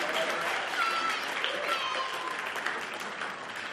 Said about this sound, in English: Should we have a big round of applause